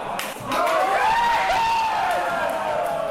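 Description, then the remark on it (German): A pub crowd on Reinhardtstraße in Berlin erupts in cheering and shouting at the final whistle of a football final, after Mario Götze's goal in the 113th minute, loud and sustained for a few seconds, with raised voices whooping over a dense wash of noise. “Jubel, Freude zuerst, dann nach einigen Minuten die Bilanz der Gäste hier.”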